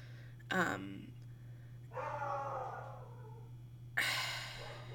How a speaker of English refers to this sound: Just a second. Sorry, I think there's someone at the door. Okay, that was really weird. My dog started barking.